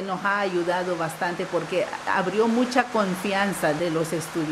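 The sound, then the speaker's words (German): Heavy tropical rain pours down at a school teaching in Spanish and Miskito, a steady, dense hiss filling the whole clip, while a voice talks over it with rising and falling tones. “Während ein heftiger tropischer Regenguss niedergeht, zieht die Direktorin Bilanz.”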